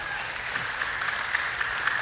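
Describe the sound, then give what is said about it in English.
A crowd claps steadily for the Bible at a service, the dense patter of many hands holding an even, moderately loud level throughout, with no voices standing out above it. “The Bible is worth clapping for, right?”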